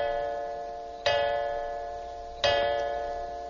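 clock ticking

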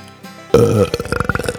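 wet belch

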